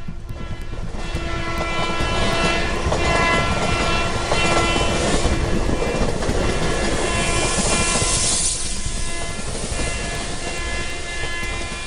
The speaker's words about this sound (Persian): در میان جهنمی که از لرزش ریل ها و جیغ و داد ها و صدای دیوانه کننده ترمز قطار بلند شده احساس سرمایی کرد.